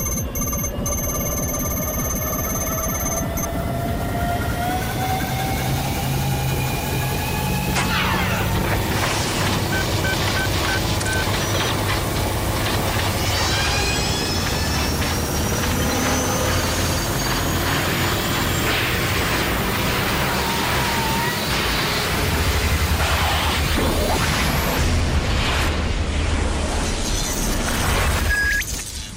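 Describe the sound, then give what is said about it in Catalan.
A dense, loud whooshing sci-fi effect of a time machine travelling back to the 21st century, with rising and falling whistling tones, metallic clangs and crackling bursts swirling together for about half a minute, with no talking. “I retornem, Rafael, al segle XXI, Fiquem-nos a la màquina”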